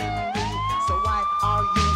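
A police siren wails loudly and steadily, its tone rising and then holding high, over rhythmic low thumping and background commotion, close and intense.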